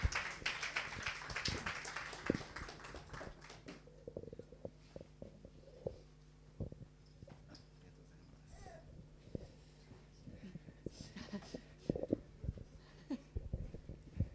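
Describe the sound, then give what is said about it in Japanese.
Audience applause of many hands welcoming visitors at a church, loud and dense for the first few seconds, then thinning to scattered claps and light shuffling noises. “Please receive them with claps。”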